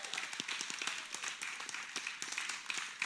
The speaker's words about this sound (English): Hey, before you have a seat, let's applaud God. Let's applaud him like with some enthusiasm.